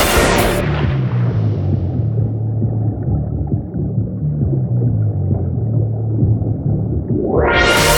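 A loud artillery blast opens, then a deep, heavy rumble with a low droning tone rolls on for several seconds before another burst of gunfire swells up at the end. No one speaks.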